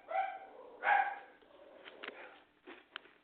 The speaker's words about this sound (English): That's not the missus barking at you, is it? No. That would be a lot louder and a lot deeper.